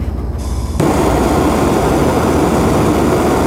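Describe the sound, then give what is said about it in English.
After a moment of low rumble, a blowtorch flame suddenly ignites and roars loudly and steadily, a dense continuous hiss with no talking, as it is used on a boat to grill slider buns in ghee. “But I don't have a grill on my boat, so I'm going to have to use a blowtorch.”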